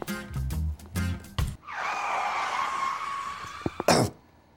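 After a few short, loud bursts, a sustained high-pitched brake screech wails for about two seconds, then ends with a brief sharp impact-like burst.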